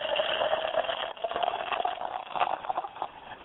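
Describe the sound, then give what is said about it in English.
Shasta Tiki Punch soda being poured, a steady fizzing, splashing rush that runs for a few seconds with a brief dip partway through, then continues with crackling carbonation and no talking. “Yes, I got a Shasta Tiki Punch pouring it.”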